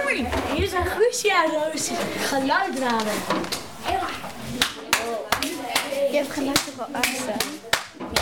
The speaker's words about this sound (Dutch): Applaus!